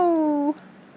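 A single short cat meow, loud, holding a steady tone that dips slightly before cutting off after half a second, followed by quiet background.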